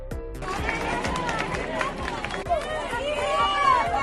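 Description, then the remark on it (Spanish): A crowd claps steadily in a dense burst of applause, with voices calling out and chattering throughout, fairly loud, as people in the Las Bodegas neighbourhood of El Mazo welcome a visitor who arrived by helicopter. “Ha sido recibido, como no, entre aplausos.”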